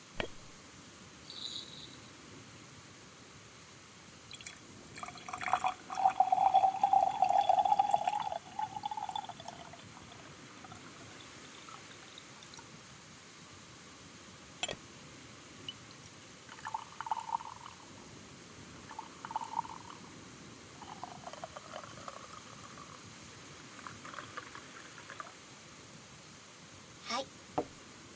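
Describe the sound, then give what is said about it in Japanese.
Tea pours steadily into a cup in a small guest room on a rainy day for a few seconds, its gurgling pitch rising as it fills, followed by softer, shorter trickles and light clinks against a quiet background. “とりあえずお茶を入れる。”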